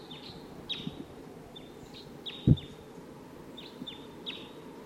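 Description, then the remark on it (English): A wild bird calls repeatedly, a series of high, thin downward-sweeping chirps at a steady pace over a low outdoor rumble, with one brief dull thump partway through. “They're recording the wild bird.”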